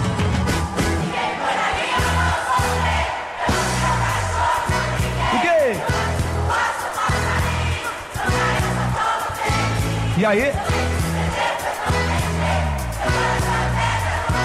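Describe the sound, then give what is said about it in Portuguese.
A large concert crowd sings along loudly in unison over a band's steady, thumping beat, with the music staying dense and continuous throughout and one brief spoken call. “Canta alto aí com a gente, vai lá.”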